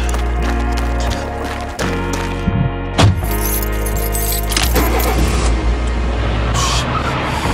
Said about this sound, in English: Fucking car. Fuck.